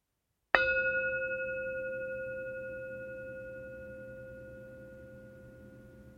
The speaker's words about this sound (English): When you hear the bell ring, just bring your attention to it and wait for more instructions once it fades out.